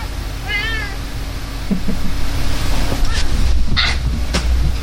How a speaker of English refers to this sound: It's not every day you can hear the cat meow from downstairs. Yeah. He's pissed off.